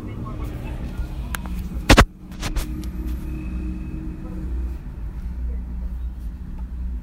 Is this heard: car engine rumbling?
yes